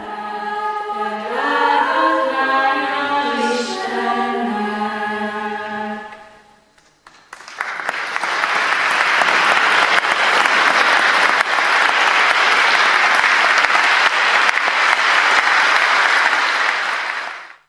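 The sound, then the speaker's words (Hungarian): The Prohászka school student choir sings a sustained harmonious phrase of a song tied to veneration of the Virgin Mary in a cathedral, fading out, followed by a loud, steady burst of audience applause lasting about ten seconds before stopping abruptly. “A diákok a szűzanya tisztelethez köthető énekeket, kórusműveket adtak elő, amelyet a közönség nagy tapssal köszönt meg.”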